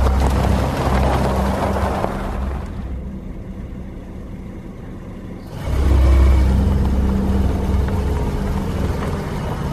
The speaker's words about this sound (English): She drove onto the ramp, put the car in drive, and released the brake.